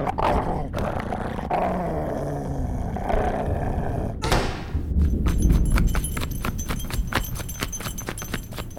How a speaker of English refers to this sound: Well, it might have been a summer evening. There was some thunder, and somebody walked up and opened a door very slowly, but a dog growled and barked.